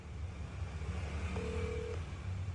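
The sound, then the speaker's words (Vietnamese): A single steady electronic phone tone sounds for about half a second, like a dialing or ringing signal, as an unanswered call is placed again, over a constant low rumble of engine or road noise, with no voices. “Sao nghe máy ta, để gọi lại thử coi ha.”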